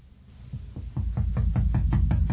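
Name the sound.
knocking on a door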